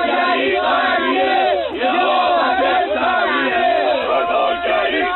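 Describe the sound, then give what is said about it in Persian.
A large crowd of supporters of population increase, gathered in the city to defend the system's policies, shouts and chants together in a loud, continuous roar of many overlapping voices, with rising and falling cries and no single speaker standing out, sustained for the whole stretch. “همکاری گرامی، یه سری از طرفداران افزایش جمعیت اینجا جمع شدن و دارن از سیاست‌های نظام دفاع میکنن.”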